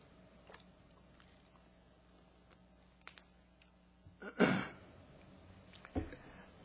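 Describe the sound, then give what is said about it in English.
Quiet sips of water: a few small mouth clicks, then a longer wet slurp and a short swallow-like burst near the end, with no talking. “I gotta drink a little water here.”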